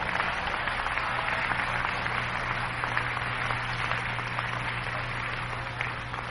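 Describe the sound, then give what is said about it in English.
An audience claps their hands in a steady, dense wash of applause that holds at an even loudness for several seconds, with a faint low hum running underneath. “Clap your hands, somebody.”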